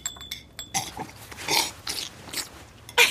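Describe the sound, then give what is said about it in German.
Loud, wet slurping noises, a series of noisy sucking bursts with short pauses between them, as someone slurps ramen broth. No talking. “Bei uns wird es als unhöflich angesehen, aber in Japan ist das Schlürfen von Ramen sogar ausdrücklich erwünscht.”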